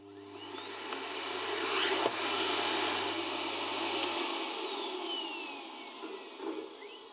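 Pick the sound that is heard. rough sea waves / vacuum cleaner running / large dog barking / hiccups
vacuum cleaner running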